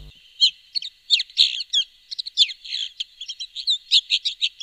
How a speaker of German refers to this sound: Hier steht ein nennenswerter Bestand der Wacholderheide und auf naheliegenden Büschen lässt sich im Sommer ein Vogel mit dem auffälligen Namen Neuntöter erblicken. So hört er sich an.